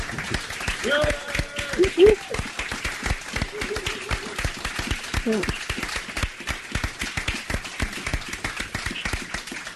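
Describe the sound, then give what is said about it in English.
A crowd applauds steadily, dense overlapping claps filling the whole stretch at a fairly even level, with a few voices calling out and a brief whoop rising above the clapping. “And extend that applause for the people who are inside police cells right now for taking that action.”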